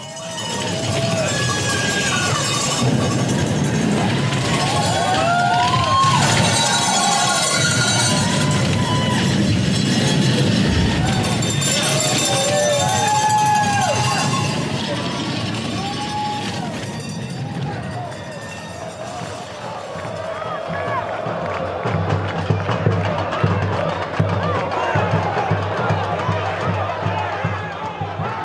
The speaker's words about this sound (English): Like a piece of music that if you just sit and listen to the crowd, you hear like how it swells and dives and peaks and then suddenly bursts. It sounds to me like an orchestra.